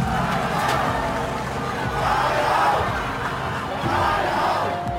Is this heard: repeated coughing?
no